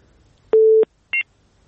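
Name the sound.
telephone busy tone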